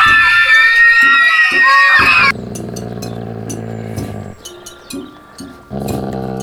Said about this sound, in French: Le son des cris de mes copines du foyer et de la classe.